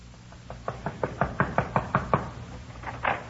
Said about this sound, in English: We went over to Red's place and knocked on his door.